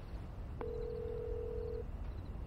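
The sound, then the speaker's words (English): A single steady electronic cell phone tone starts with a soft click and holds for just over a second, clear over a low, constant background rumble, as a woman dials her cell phone. “She picks up her cell phone and dials.”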